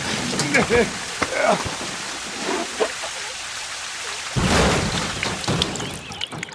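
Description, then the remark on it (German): Water shoots up in a fountain from a broken water pipe in a steady, hissing rush, swelling into a louder surge partway through, with faint voice-like sounds mixed in. “Eine Wasserfontäne. Du hast dein Rohr kaputt gemacht.”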